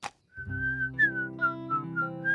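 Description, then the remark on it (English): A person whistles a short melodic tune, clear, with pitch shifting between several sustained notes over soft instrumental backing and no talking. “This is called whistling.”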